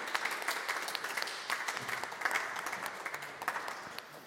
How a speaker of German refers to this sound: Kommt doch sehr gerne nach vorne und einen herzlichen Applaus.